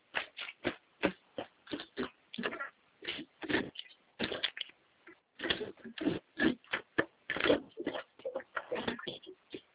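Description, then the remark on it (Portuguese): A pen scratches across paper in quick, irregular strokes as someone writes down a number, short bursts of writing with brief pauses between, with no talking. “Aí eu vou pegar a caneta para anotar aqui o número.”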